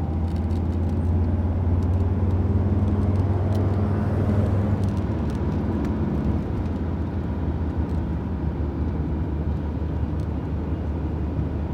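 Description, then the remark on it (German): A car drives steadily back to the train station with a continuous low engine rumble and road noise. There is a brief swell in the middle, then it settles into an even hum with no talking. “Fahren wir zurück zum Bahnhof.”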